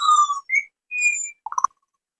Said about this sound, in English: So four birds landed on the table I'm sitting at. And they're singing to us and they're listening to us right now. And that's what you just heard.